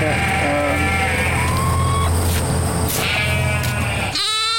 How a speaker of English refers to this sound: You want to see the sheep over here?